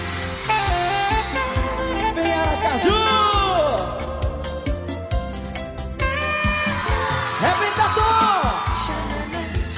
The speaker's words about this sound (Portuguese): E o grito das minhas meninas.